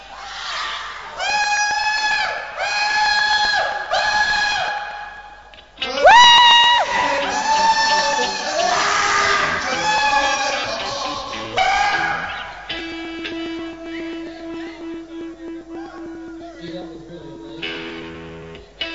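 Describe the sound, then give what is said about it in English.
A group of people scream, whoop and shout over one another for about 15 seconds in loud, high-pitched bursts mixed with overlapping talk, giving way in the final seconds to a steady sustained tone. “All right, we can all scream and talk for about 15 seconds.”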